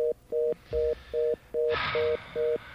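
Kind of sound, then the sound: signal or alarm, touch-tone telephone keypad dialing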